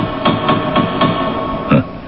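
knocking on a gate

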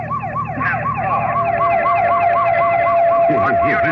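police car siren wailing

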